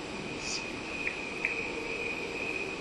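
Crickets chirp in a steady, continuous high trill from a normal recording, layered over a low, smeared wash of crickets slowed way down to a rate that would make a cricket's life as long as a person's, humming like a chorus, with no voices present.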